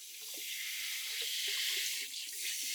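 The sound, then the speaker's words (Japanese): Warm water pours steadily over a person's head and hair, rinsing off shampoo lather after a head massage, a continuous rush with soft splashing textures underneath, no voices present. “お湯が最適な温度になりました。頭にかけてまいりますので、目を閉じていてください。”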